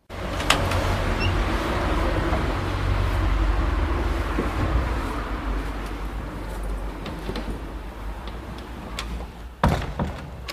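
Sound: street traffic noise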